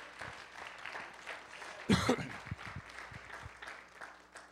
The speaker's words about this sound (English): Praise God. Would you just give the Lord another hand clap of praise?